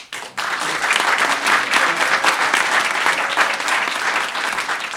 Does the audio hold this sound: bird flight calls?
no